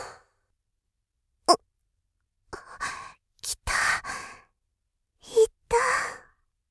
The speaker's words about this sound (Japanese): そろそろ私の体が、睡魔をご降臨せしめそうとしているのだけれど。あくびですわ。